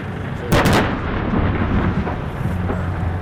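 Israeli artillery fire on the centre and south of the Gaza Strip booms out in a loud cluster of sharp blasts near the start, followed by a deep, continuous rumble with lower thuds rolling on underneath.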